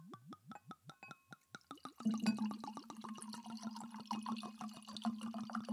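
Wine glugs out of a freshly opened bottle into a glass in quick, rhythmic gulps that speed up, then settles into a steady, hollow-toned stream of pouring liquid. No one speaks.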